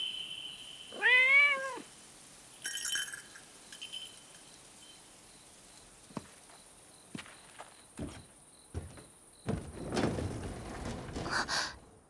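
A single clear cat meow rises and falls near the start, followed by quiet, irregular footsteps and soft rustling with no one talking.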